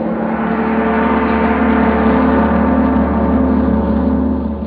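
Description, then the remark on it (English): A big brass gong rings out in a loud, sustained metallic roar, dense with shimmering low and mid overtones that hold steady before easing slightly at the end. “That, my friends, was a big brass gong.”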